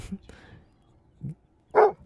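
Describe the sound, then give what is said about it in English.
A large, powerful Rhodesian Ridgeback dog gives an alert bark a few times: a deep gruff woof, a softer low one, then a loud, full bark, with quiet gaps between. “Yeah, and then finally we have the bark of the Rhodesian Ridgeback.”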